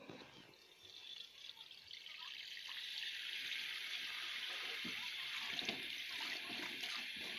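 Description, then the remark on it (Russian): A tap runs steadily, its hissing stream of water growing slightly fuller, while faint knocks and clinks come through underneath as a mug and a plate are washed. No one speaks. “Сейчас я кружку поставлю, помою тарелку.”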